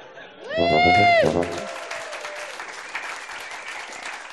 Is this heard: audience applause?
yes